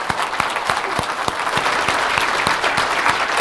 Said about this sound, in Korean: 우리 박수로 한번 감사합니다.